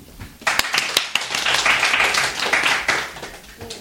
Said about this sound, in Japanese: 拍手ありがとうございます。